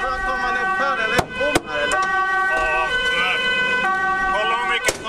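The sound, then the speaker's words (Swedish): Police car sirens wail steadily throughout, their pitches rising and falling in overlapping layers, punctuated by a few sharp knocks, with a low street rumble underneath, from many police cars waiting at the cordoned-off Navestad area during unrest. “Det är oroligt här i Navestad området och många polisbilar som står och avvaktar ifall om läget blir ännu mer dramatiskt så kommer de att gå in.”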